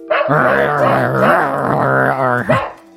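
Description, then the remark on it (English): A man leaning against a wall growls like a dog to scare off a creature inside the wall, in one sustained, rumbling burst of about two and a half seconds, loud, with a rough wavering tone and no other sounds around it. “… leans up to the wall and starts growling like a dog to trick this thing”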